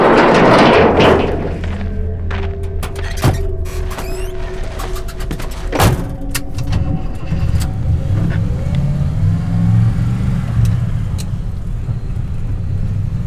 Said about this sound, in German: Ich fahr den Wagen. Los geht's.